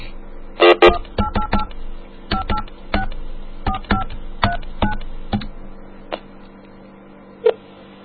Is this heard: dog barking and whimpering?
no